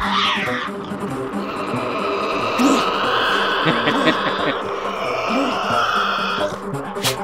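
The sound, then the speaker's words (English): Devils come out of the woods at night and squabble over roadkill, a steady din of harsh growls, groans and wailing snarls punctuated by a few sharp, high yelps, continuous and fairly loud throughout. “And then they just start eating and fighting with each other.”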